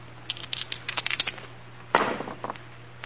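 A quick run of small clicking rattles, then a sharper clattering tumble and a few final light taps as dice come to rest. No one speaks.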